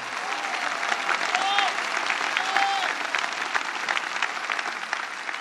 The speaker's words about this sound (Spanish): En este día en el que se celebra Nuestra Señora de Luján, celestial patrona de Argentina, un aplauso a la Virgen de Luján. Más fuerte, no siento, más fuerte.